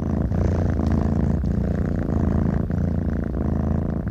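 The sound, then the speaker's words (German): Several cats purring together in a steady, low rumbling drone, close and continuous, with soft rhythmic pulses of breath woven through the layered hum. “Vorteilhaft wäre auch, Sie wären Katzenfreund, denn Katzen sind die einzigen Mitglieder dieses merkwürdigen Chors.”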